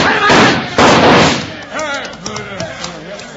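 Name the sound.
gunshots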